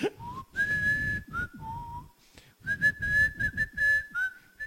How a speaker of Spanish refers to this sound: Sí, mejor silbala